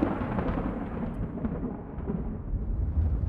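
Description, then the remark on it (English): A deep, continuous rumble of thunder rolls beneath a steady wash of rain during a storm with lightning, as the rain begins to ease off; fairly loud and unbroken throughout, with no voices present. “The rain had begun to ease off, but the thunder and lightning were still raising a fuss.”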